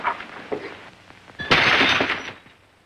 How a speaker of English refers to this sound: hurls his brandy glass across the room.